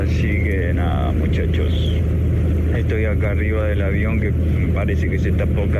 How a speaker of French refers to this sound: Là, je suis dans l'avion. On dirait qu'il est sur le point de tomber en morceaux.